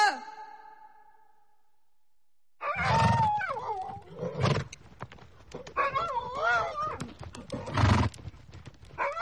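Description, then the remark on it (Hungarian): A horse whinnies sharply, then after a brief pause horses snort and neigh nervously in a stable alongside long, wavering cries of a dog howling somewhere below a castle, loud, with no talking. “Valahol a vár alatt egy kutya vonított, az istállóban lovak horkantottak idegesen, más válasz nem érkezett.”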